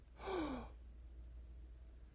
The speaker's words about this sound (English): Imagine a little baby. Imagine a little baby breathing in very deep.